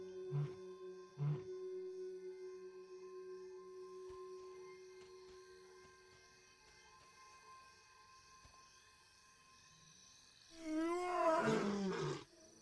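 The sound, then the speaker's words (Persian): A lion's powerful warning roar at night, guarding its 40-square-kilometre territory from rival lions, bursts out near the end after quieter grunts and a steady low hum. It is loud, over 100 decibels and heard from 8 km, rising and falling in a rough, throaty swell. “قرش او ندای هشدار است که در شب با سردی هوا مسافت بیشتری را طی می کند.”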